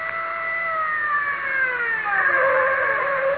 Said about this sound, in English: Now stop the car.